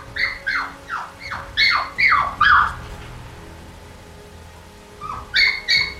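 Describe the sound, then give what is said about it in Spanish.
A castle's dogs bark furiously in a rapid, agitated series of sharp yelps, fall silent for a few seconds, then start up again with another quick burst. No one speaks. “En ese mismo instante, los perros del castillo rompieron a ladrar llenos de furia y, a lo lejos, se oyeron los ladridos de otros perros.”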